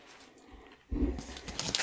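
A quiet moment, then crackling and crunching as an Easter egg is bitten and eaten, a dense burst of crisp, scratchy noise with soft chewing thumps lasting about a second.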